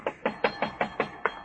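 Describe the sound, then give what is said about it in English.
Seven quick, evenly spaced knocks on a door, sharp and moderately loud, rapping in a steady rhythm with no voices. “I mean, if he answers it, he'll probably answer your knock, too.”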